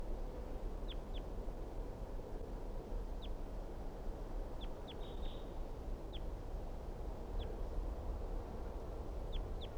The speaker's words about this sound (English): So recording, this is the wild bird.